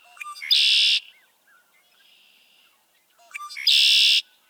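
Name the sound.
red-winged blackbirds calling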